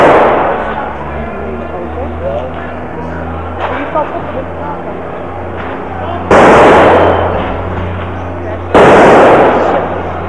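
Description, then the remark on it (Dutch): Two loud, sharp blasts of strike-ignited firecrackers go off a couple of seconds apart, each crackling briefly, over a steady low engine rumble and murmuring crowd voices in the background. “Dat was een strijker.”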